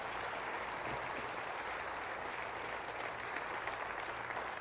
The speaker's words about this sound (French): Et j'aimerais que vous puissiez déposer votre Bible et applaudir avec moi ce que le Seigneur peut faire à travers nous. Voulez-vous applaudir avec moi ce que Dieu peut faire à travers nous tous?